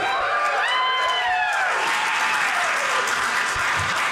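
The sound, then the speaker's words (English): A crowd breaks into sustained, dense applause with scattered cheers and whoops rising over it, the clapping staying steady and loud throughout. “I earned every bit of that applause.”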